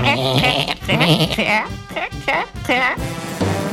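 A goat bleats several times in quick succession, each cry loud and quavering, with brief pauses between the calls.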